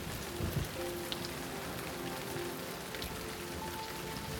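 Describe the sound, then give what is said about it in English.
Steady rain pattering on a surface, a dense continuous hiss with occasional drips, fairly quiet and even throughout, with a faint tonal hum underneath and no voices. “You feel safe here and happy as you jump with the frog in the rain.”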